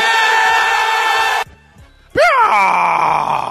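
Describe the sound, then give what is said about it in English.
A dense, noisy roar cuts out to a brief lull, then Howard Dean's famous political rally scream: one loud, raspy shout that leaps upward in pitch and trails off into crowd noise. “Felt like a Howard Dean scream was appropriate in that spot right there.”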